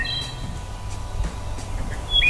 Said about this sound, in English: And we wrap up with bird sounds.